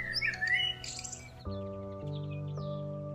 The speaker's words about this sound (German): Als die Wunderwiesenschule schließlich endet, landen auch schon Mama und Papa Rotschwänzchen auf dem Ast. Die beiden Küken zwitschern stolz und wild durcheinander, um von ihrem aufregenden Tag zu erzählen.